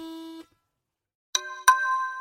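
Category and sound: signal or alarm, phone notification chime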